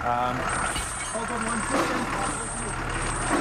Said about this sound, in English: A tow truck releases a SUV in the City Deep Auto parking lot. The wreck is metallic gold and brand new, except that its front is torn off.